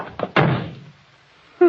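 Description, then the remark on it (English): A door slams shut with a loud, heavy bang, preceded by a couple of quick rattling thumps, then its boom decays into near silence before a faint voice begins. “You shouldn't have slammed the door”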